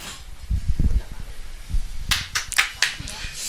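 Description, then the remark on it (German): Brief, sparse applause for a question: a handful of sharp, bright claps in an irregular burst lasting about a second and a half, following low murmuring voices. “Applaus für die Frage.”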